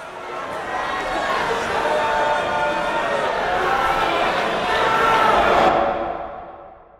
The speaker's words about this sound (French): Le jour du verdict, quand le couple descend les 17 marches de l'entrée du tribunal, il se fait huer par la foule.